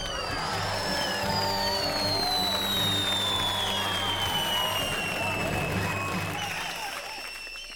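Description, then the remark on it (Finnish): Steady, dense, loud applause given for an answer on the Yle Radio Suomi quiz show Kysymys vai vastaus? fills the whole stretch, with a high whistling tone gliding slowly downward above it and a low rumble underneath, fading slightly at the end. “Hei, tämä on aivan varmasti totta ja mä annan sulle tästä aplodit.”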